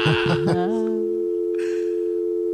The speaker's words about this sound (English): It's a dial tone. Dial tone? What is it?